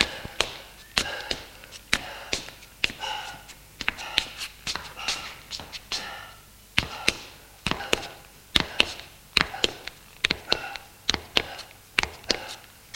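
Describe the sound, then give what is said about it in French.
Footsteps of a man carrying a wrapped body on his shoulders descend a staircase: a steady series of sharp, hard taps, roughly one or two per second, fairly loud, with some scuffing between steps and no voices. “Le couloir et descend les escaliers.”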